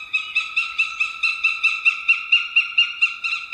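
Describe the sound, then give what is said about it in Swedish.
A northern goshawk gives a rapid, harsh cackling call, a steady series of about a dozen loud, evenly spaced notes ringing out alone from a treetop in a deep forest. “Nu är vi inne i en djup skog och från en trädkrona hör vi en duvhök.”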